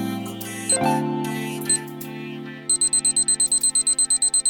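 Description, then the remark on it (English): A musical chime swells and rings out, then a rapid, steady run of loud ticking beeps like a countdown timer or alarm clock takes over, repeating evenly to the end with no voices. “The clock starts now.”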